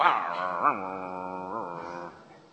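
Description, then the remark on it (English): A human voice imitates the bark of a faithful dog sitting at a family's door and keeping people away, giving a drawn-out, howly woof with two pitch bumps. It is moderately loud, with no other sounds around it. “A faithful dog sits at the family's door and keeps people away. Woof, woof. Stay away.”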